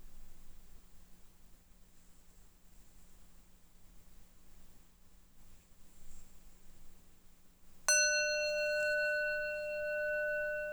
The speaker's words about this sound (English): And when I rang the bell, just checking where your mind was, what was going on, were you sitting here doing nothing, or was the mind maybe busy thinking?